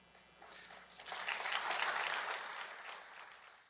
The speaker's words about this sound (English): And the crowd didn't clap, barely clapped.